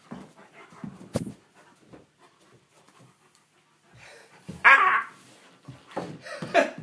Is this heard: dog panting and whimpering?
yes